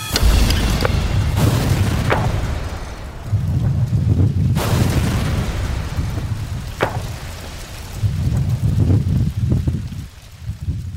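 A powerful explosion of a reconstructed car bomb, set off after a countdown, booms out, followed by deep rolling rumbles and a few sharp cracks as debris settles, loud with no voices.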